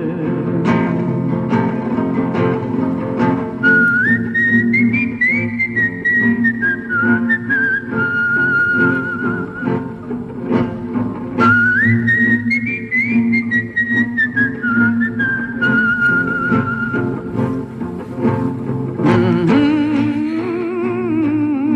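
A clear, steady whistled melody plays in two long phrases, rising and then gently falling, carried over a sustained instrumental backing with no one speaking.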